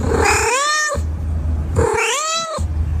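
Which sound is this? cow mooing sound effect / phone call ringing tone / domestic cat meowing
domestic cat meowing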